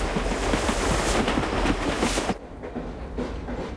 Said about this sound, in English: The tracks run along the shoreline beside a lake as the train makes its way through a forest of birch and aspen.